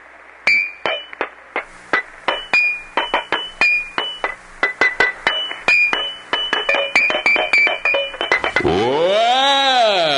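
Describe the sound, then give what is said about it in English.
A rapid series of bright, ringing clinks from water-filled glass Coca-Cola bottles tapped as a talent act on WAKY Louisville radio, in a quick, tuneful rhythm at varied pitches, ending in a swooping, wavering tone. “I'm going to do my Coca-Cola water-filled bottle thing.”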